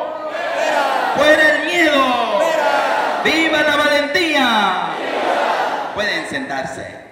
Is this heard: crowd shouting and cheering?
yes